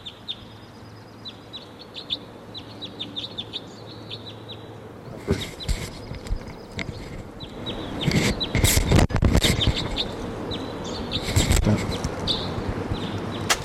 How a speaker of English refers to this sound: Now it's 7:35, and there's a wild crossbill here. Wild.